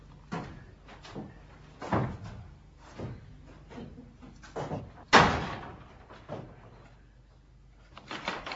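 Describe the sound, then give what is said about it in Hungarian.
A series of wooden knocks and thumps as someone leaves through a door, the door being handled and swung, ending in one sharp, loud bang near the middle, followed by softer bumps; no one speaks. “Potkoljoszin elhullajtva a rózsaszirmokat távozik. Az ajtóból visszainteget.”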